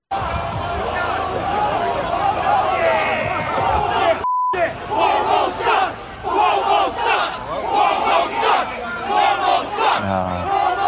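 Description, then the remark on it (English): A large protest crowd around a building in New York State chants and shouts loudly in unison outdoors, chanting "Cuomo sucks", a dense roar of many voices with rhythmic swells, interrupted briefly by a short electronic beep. “But the crowd around the building had a very appropriate chant to give to the state of New York.”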